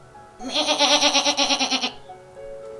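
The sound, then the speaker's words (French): A goat leaving an orchard lets out a single long, wavering bleat lasting about a second and a half, loud, with a trembling vibrato, followed by quiet. “La chèvre abandonne le verger.”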